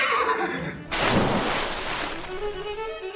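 A horse whinnies loudly, a shrill, wavering neigh that bursts out and then trails off into a lower, shuddering tail, with no voices present.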